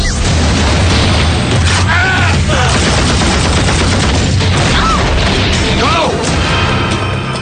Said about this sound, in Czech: Ano, tak přesně takhle. Padají bomby a kruté výstřely momentálně od pondělí ve Vyškově, na základně, kde se nejen tedy cvičí profesionálové, ale také, kde se momentálně cvičí herecký tým